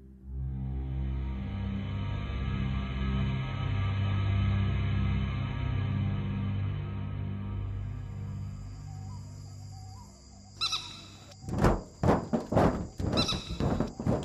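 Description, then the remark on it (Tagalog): After a long low droning hum, a burst of loud metallic bangs and thuds erupts, several heavy impacts in quick succession as something like a large bird lands on the galvanized iron roof of a house after dark. “May narinig akong parang malaking ibon na dumapo sa bubong ng bahay. Yero ang aming bubong kaya malakas ang kalampak.”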